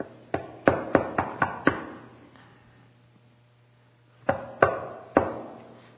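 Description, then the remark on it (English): A quick run of six sharp wooden knocks on a door, a pause, then three more, crisp against a low steady hum with no one talking. “You wonder why he's knocking?”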